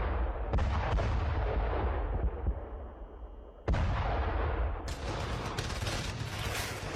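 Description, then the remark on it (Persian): Loud artillery cannon fire and roaring tanks in Kabul on the morning of 7 Saur 1357 (April 1978), at the start of the military coup against Mohammad Daoud Khan. Heavy booming blasts erupt, then trail into a continuous low roar and rumble of tanks, with a dense crackle of gunfire layered over it and no voices. “اما صبحگاه هفتم ثور سال 1357 هجری خورشیدی مردم کابل با صدای توپ و غرش تانک ها از خواب بیدار شد.”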